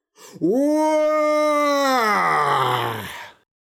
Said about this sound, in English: Then there was a great cry, which sounded like the earth was tearing itself in two.